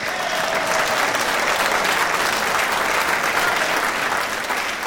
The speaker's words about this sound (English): We thank God. We thank God. Come on, somebody in the house, give God a hand clap.